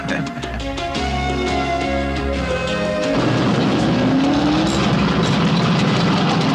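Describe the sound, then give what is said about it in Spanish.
A loud race car engine roars steadily as a new driver takes the car out for some laps, its pitch shifting as it drives, then the sound turns into a rougher, noisier rush with a brief rising whine as the car speeds past. “tiene un nuevo piloto y necesita el coche para dar unas vueltas.”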